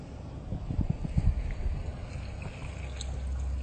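Water is poured into a cooking pot after cauliflower is added, with a few low sloshing thumps at first, then a steady rushing pour that continues to the end. No one speaks.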